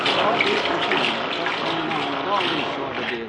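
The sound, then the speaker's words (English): A misbehaving washing machine runs with a steady, loud rush and churn of water, a broad hissing wash of sound lasting throughout, with faint muffled voice-like tones beneath it. “Darn this washing machine. What makes this thing act like this?”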